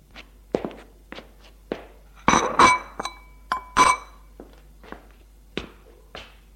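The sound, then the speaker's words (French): Breakfast dishes and glassware clink and tap in an irregular scatter of light knocks, with a few louder, ringing clinks near the middle, as a man has his breakfast; no one speaks. “Prend sa douche, son petit déjeuner.”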